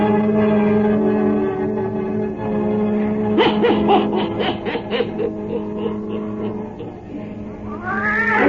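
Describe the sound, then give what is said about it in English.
A black cat named Satan meows in long, wavering yowls, loud, with a stuttering burst in the middle and a rising cry at the end; a steady droning tone runs underneath at the start. “Weird, blood-chilling tales told by old Nancy, the witch of Salem, and Satan, her wise black cat.”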